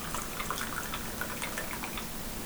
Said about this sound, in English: Sorry for this little interlude where you're having to listen to me pour coffee and drink water.